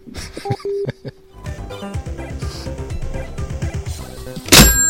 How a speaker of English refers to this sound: Gonna give her the slamming down the phone sound.